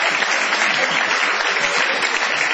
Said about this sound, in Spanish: La gente le aplaude al caramelero.